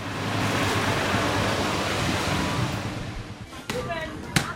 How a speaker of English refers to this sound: The villagers that are working here, stripped to the waist and sweating as they slosh the beans around in these huge tubs full of water next to these massive oil barrels with wood fires smoking underneath them.